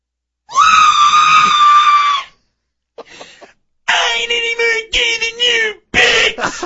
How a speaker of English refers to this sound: God, I never screamed like that before.